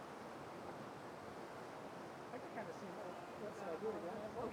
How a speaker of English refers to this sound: I'm here at Wausau White Water Park making waves with Team River Runner as they take on the Rapids.